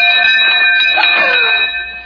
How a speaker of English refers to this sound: And then the doorbell rang.